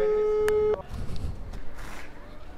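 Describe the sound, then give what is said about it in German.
A steady electronic telephone ringing tone sounds for under a second as a call is placed to a number on a balcony banner in Lottumstraße, then cuts off abruptly when an artist answers, leaving hissy line noise and a faint voice. “Du stehst unten auf der Straße. … hebt ab.”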